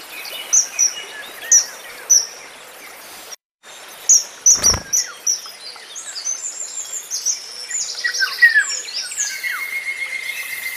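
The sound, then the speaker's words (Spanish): In a poplar grove and riverside thicket by one of the gorges coming down from the Sierra de Béjar, a Cetti's warbler gives loud, sharp, explosive calls in a quick series, then a golden oriole's fluted whistles join in among a busy background chorus of other birds. “escuchamos en una alameda, en un soto, pues esta llamada que es como de un sargento, de un cetia, y enseguida empezará a silbar la oropéndola.”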